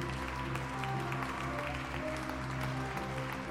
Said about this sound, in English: This act is followed by a dazzling series of illusions and sleights of hand, producing out of nowhere an impossible array of objects to disappear in similarly perplexing ways, followed each time by a growing wave of applause.